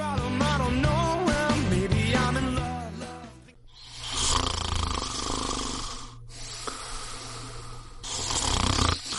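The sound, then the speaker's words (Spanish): Loud snoring with a wavering, throaty drone at first, then two long raspy inhaled snores following one after another, no talking. “Hay una solución más civilizada para acabar con los ronquidos y la apnea del sueño.”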